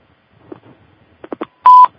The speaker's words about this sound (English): Okay. I heard a beep there. Yeah, do we have someone on?